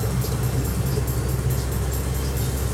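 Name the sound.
car interior noise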